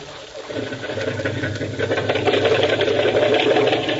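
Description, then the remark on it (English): A small boat motor is started while the boat is held in the surf; it catches and settles into a steady, rattling drone, fairly loud, with a busy buzzing texture that continues to the end. “Hold it into the surf till he gets the motor started.”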